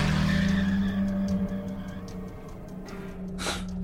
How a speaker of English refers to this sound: I jammed the keys into the ignition and took off like a gunshot, leaving the neighborhood at three times the legal speed limit.